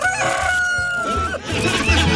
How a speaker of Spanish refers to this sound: Me regaló un gallo que... Ay, mira, ahí está el gallo, es el gallo. Ese fue el primero que llegó a la granja.